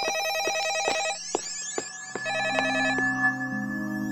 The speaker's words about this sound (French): Ah, téléphone. Mais ça vient d'où ? C'est pas courant dans un musée. Qui peut bien nous appeler ?